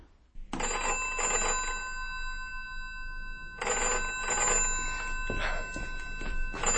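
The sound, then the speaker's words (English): An old-fashioned telephone bell rings loudly in two long bursts, a bright metallic trill with a short pause between them and no one speaking, an incoming call at 7 o'clock in the morning. “I'm sorry to have got you out of bed, but you did tell me to ring you at once”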